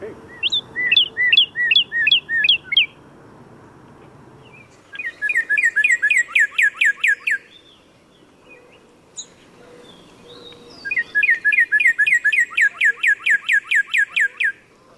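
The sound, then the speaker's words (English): A cardinal sings three loud phrases of rapid, repeated downslurred whistles, each a quick run of bright chirping notes, separated by short pauses with faint background hum. “So this is a cardinal.”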